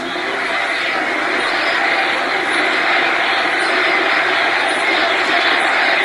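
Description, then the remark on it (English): A big crowd cheering at a Donald Trump event at the Wings Over the Rockies Air and Space Museum in Denver, Colorado, a loud, steady roar of many voices blending into a continuous wash of noise that holds at the same level for several seconds without a break. “Sounds like a really big crowd, but you can't tell.”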